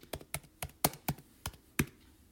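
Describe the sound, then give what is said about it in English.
A run of about eight sharp, bright strikes on the keys of a xylophone that is missing some keys, fairly loud, tapped in an uneven rhythm with brief gaps between hits and no talking. “If you're looking to take up a musical instrument and need an easy one to start with, you might want to consider learning how to play the xylophone.”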